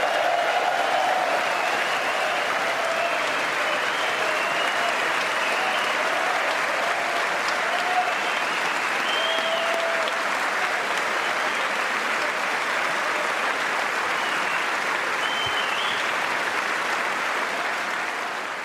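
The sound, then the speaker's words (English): Sustained audience applause for three World War II veterans, a dense steady wash of clapping hands that holds at an even, loud level for nearly twenty seconds with no talking. “The applause went on, and those three World War II veterans beamed with pride.”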